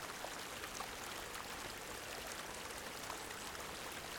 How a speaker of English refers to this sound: You come upon the stream. It looks refreshing. It looks clear and cold. You stand for a moment and watch the playful, bubbling white water frothing over the rocks.